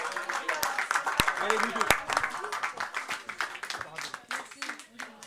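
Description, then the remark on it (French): An audience applauds three artists with dense, continuous clapping throughout, fairly loud and steady, with voices mixed in underneath and the applause easing off slightly toward the end. “On les applaudit encore.”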